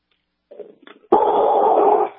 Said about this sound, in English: I'm thinking my dog is barking at whoever just walked by the front of the house.